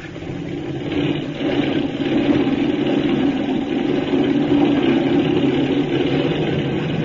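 A powerful aircraft engine revs up for takeoff, building to a loud, steady roar after about a second and holding at a sustained, throbbing drone, with no voices.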